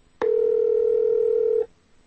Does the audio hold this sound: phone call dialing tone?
yes